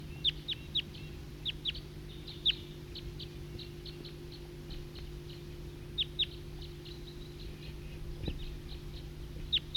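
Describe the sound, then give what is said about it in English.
A recording of a flock of wild birds chirping continuously, many short high-pitched calls overlapping at an uneven rhythm over a steady low hum, with no talking. “It's a recording flock of wild birds.”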